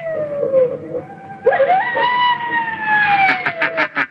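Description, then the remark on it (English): A man imitates baying hounds coming back across the moor, with long, wavering howls that rise and slide in pitch, swelling into a louder stretch of pulsing, siren-like cries before breaking off. “Don't you want me to do the hounds again? Yes, yes, of course. Make it sound as if they're coming back across the moor.”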